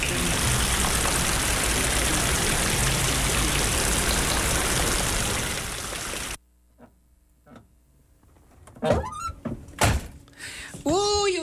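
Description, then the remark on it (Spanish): Dense, steady rain hisses loudly for about six seconds, then cuts off abruptly, leaving near-silence broken by a few sharp knocks and brief voice sounds. “Llueve, llueve, uy, cómo llueve. Las gotitas cuando saltan.”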